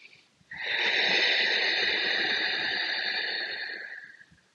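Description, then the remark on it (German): A single long, steady exhale through the nose with the mouth closed and the glottis narrowed, hissing and rushy with a throaty rasp, lasting about three and a half seconds before fading out, with no talking. “Und dieses Verengen der Stimmritze und dieses geräuschvolle Ausatmen hat eine Auswirkung auch auf deinen Kehlkopf.”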